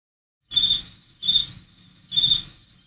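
Crickets chirp in three evenly spaced bursts, each a shrill, buzzing trill lasting about half a second, clear, with nothing else in between.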